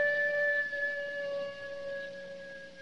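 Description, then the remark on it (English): A dog howls in one long, sustained cry, its pitch holding mostly steady with a slight waver, continuing for about three seconds with no voices. “It sounded like a dog howling.”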